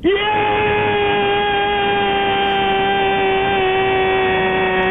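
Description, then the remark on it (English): A radio caller lets out one long, loud, sustained scream lasting about 27 seconds, holding a steady pitch without breaking, with a faint background rumble underneath. “All right, only if you will scream for about 30 seconds straight.”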